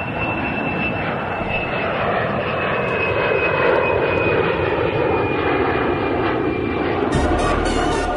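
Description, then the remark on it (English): An airplane engine roars steadily for about eight seconds as a plane takes off, a broad loud rumble with a thin high whine sliding slowly downward, then a brief crackling burst near the end. “Get it? Takeoff? Sounded more like landing, but whatever.”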